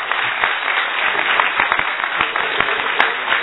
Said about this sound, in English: And also I want to take this opportunity of thanking all the people behind the scenes at Brahma Kumari. I think these guys do a wonderful job, and I think they deserve a huge round of applause, ladies and gentlemen.